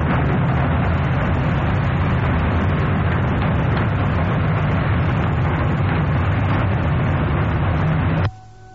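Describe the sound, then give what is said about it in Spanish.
A loud, steady roar of wartime twin-engine propeller aircraft, not jets, with a deep, churning low rumble, droning unbroken for about eight seconds before cutting off abruptly, with no voices. “Exactamente, que no se graban voces, sino que se graban sonidos de aviones, e incluso de las bombas cuando caen.”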